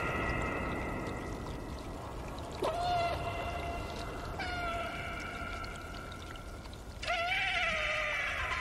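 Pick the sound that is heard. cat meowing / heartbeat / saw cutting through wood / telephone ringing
cat meowing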